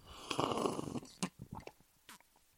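A drink is slurped into a microphone: a wet, gurgling slurp of liquid drawn in noisily for about a second, followed by a few short sucking sips and small smacking sounds, fairly quiet overall with no talking.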